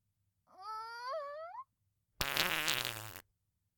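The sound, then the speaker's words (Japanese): Two farts in a row: a squeaky, tonal one that wavers upward in pitch for about a second, then after a short pause a louder, raspy, sputtering blast of similar length. “ケツヒクヒクしてたんだけど我慢できなくてさ、恥ずかしい。”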